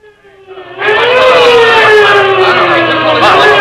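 vehicle, police car siren

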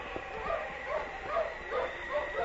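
animal, husky sled dogs barking

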